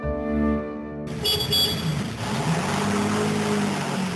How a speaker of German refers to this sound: Mit dem Auto.